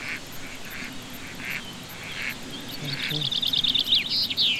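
A chaffinch sings a bright, rapid trill that tumbles downward over a steady outdoor background, following a few duck-like quacks earlier on.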